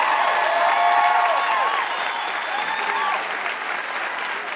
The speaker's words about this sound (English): Another huge round of applause for our VIP, Barney Frank.